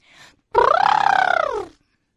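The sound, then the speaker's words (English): A person vocally imitates an animal, sounding like a hippo, producing one long, rumbling, throaty grunt with a rising-then-falling pitch, preceded by a short breathy sound. “all my animals will sound like a hippo. Wait, I'll try.”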